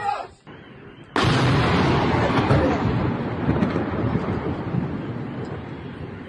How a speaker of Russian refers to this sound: А, в дом попали. Во, этот. Сбило дрон, и дрон в дом упал. Реально дрон.